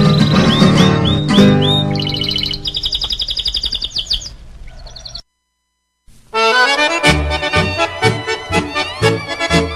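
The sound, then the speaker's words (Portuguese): A canary sings in bright, rapid chirps and warbling trills over a musical accompaniment, breaks off for about a second of silence, then resumes its busy, loud song. “Muitas vezes canta magoado o canário e passarinho.”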